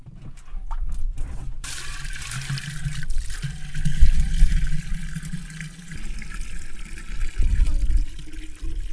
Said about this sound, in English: pulls the long rope, which is tied to the rusty iron pot, to draw water from the well.